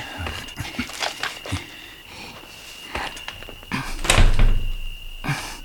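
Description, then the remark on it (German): Someone rattles and jiggles the locked door of a run-down, burnt-out house, producing a series of sharp metallic clunks and knocks in an irregular burst, with a steady faint whine in the background. “Die Tür ist verschlossen.”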